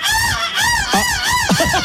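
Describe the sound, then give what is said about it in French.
A person imitates a seagull's cry: loud, nasal, wavering squawks repeated in quick succession, with no talking. “Écoutez tous les différents candidats, c'est pas mal la mouette. Jolie mouette.”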